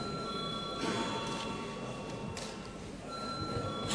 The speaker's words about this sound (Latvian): Lūdzu deputāts balsot par likumprojektu pieņemšanu trešajā lasījumā. Lūdzu zvanu.